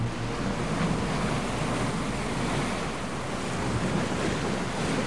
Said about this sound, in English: Beside the plant, water rushes through a canal.